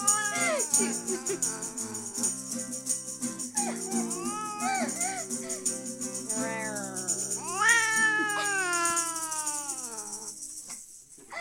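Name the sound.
cat meowing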